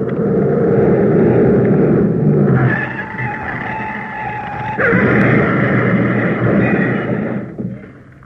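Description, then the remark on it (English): A large green Daimler, a stolen car, roars south at speed, its engine loud and steady, then high squealing tones of tyres skidding rise over the rumble for several seconds before cutting off abruptly. “Large green Daimler speeding south.”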